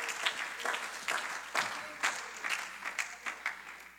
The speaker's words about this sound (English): Are you thankful today that we have that kind of God who never gives up on us? You ought to clap your hands and say, thank you, Lord.